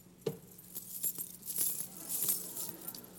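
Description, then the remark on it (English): A bunch of keys taken from Stephanie's desk, keys that once opened doors at Worth Baptist Church, jingles and clinks for a few seconds, bright metallic chimes and taps scattered irregularly, moderately loud, with no voices. “Believe it or not, I got all of these keys out of Stephanie's desk.”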